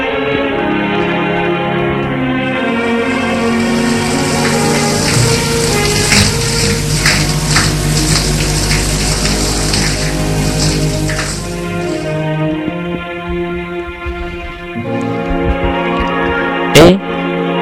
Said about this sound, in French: Entre chez lui épuisé, prend sa douche